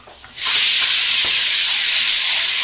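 A pressure cooker whistle bursts on abruptly and holds as a loud, steady hiss of escaping steam, sustained without any talking; the cooker holds rice, dal, vegetables, spices and ghee being cooked into khichdi.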